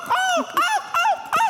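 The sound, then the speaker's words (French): A man's voice, a gull-cry champion showing his talent on a TV show, mimics a gull, letting out four loud, harsh squawking cries in quick, evenly spaced succession, each rising then falling, with no talking. “Non, il est champion de cri de goéland.”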